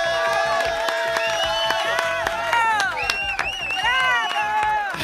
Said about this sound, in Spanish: La tribuna te aplaude